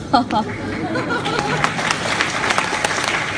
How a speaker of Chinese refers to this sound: 要掌声， 能理解。